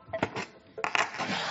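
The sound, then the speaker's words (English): A phone, just put on silent, drops into a box with a pair of sharp clattering knocks, followed by two more hollow thuds as it settles and a faint rustle afterward. No voices. “I'm putting my phone on silent, putting it in this box.”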